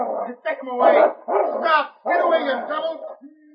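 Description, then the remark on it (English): A big dog snarls and barks ferociously in several rough, sustained bursts, loud, as if lunging in an attack as it springs toward a twig cracking in the bushes, with brief gaps between the outbursts. “A twig cracked in the bushes beside the Mountie, and like a gray streak of lightning, the big dog sprang toward the sound.”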